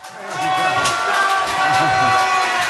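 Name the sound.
crowd cheering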